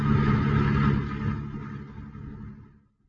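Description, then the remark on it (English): A car engine rumbles steadily with low droning hum and passing traffic noise as the car is driven through busy traffic, fading out toward the end. No voices are present. “As a member in good standing of the Safe Drivers Club, he is trying to navigate the busy traffic in safety, while at the same time listening to his daughter”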